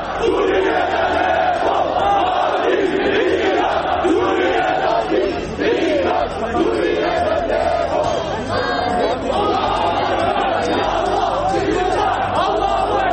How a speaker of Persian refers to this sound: صدها نفر در مقابل کنسولگری ایران در استانبول در اعتراض به سیاست جمهوری اسلامی درباره آتش‌بس در حلب تظاهرات کردند.